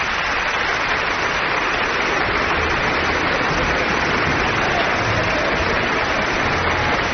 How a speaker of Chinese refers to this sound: 座无虚席的维也纳金色大厅里响起了热烈的掌声，那是观众们在为弗朗茨·威尔瑟·莫斯特和维也纳爱乐乐团欢呼喝彩。